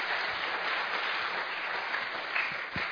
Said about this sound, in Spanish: Así es que con un cariñoso aplauso recibimos a nuestra hermana querida